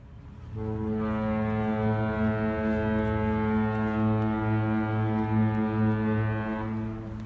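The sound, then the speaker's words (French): A deep, sustained ship's horn blast from an ocean liner, a single low droning tone rich in harmonics that holds steady for about six seconds with a slight wavering pulse, then cuts off. No voices. “C'est à cet instant précis que surgit leur paquebot.”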